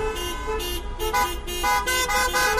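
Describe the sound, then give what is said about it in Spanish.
Many car horns honk over and over from caravans of cars driving through city streets and avenues in Spain in protest against an education law: overlapping bursts, some long and sustained, others short toots, loud above a steady rumble of traffic. “Esta ha sido la banda sonora durante buena parte de la mañana en esas ciudades, caravanas de coches que han recorrido calles y avenidas para protestar contra la llamada ley CELAC”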